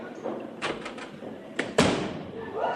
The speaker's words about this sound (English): Two slammed doors equal trouble.